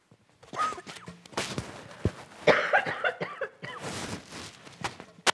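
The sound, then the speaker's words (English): A fairly loud coughing fit: several harsh, rough bursts in quick succession with short gaps between them, no talking, lasting a few seconds. “Oh, didn't want to take the cough syrup with the codeine, otherwise I'd be sleeping back there.”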